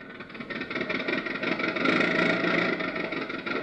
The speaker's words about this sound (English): So we find him all dressed up with his three nephews in his car, barreling merrily down the highway.